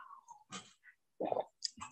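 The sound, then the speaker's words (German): Someone takes a sip of water: a few soft mouth sounds, a slurp followed by gulping and swallowing noises, quiet with no talking. “So, vielleicht noch einen Schluck Wasser, bevor es losgeht.”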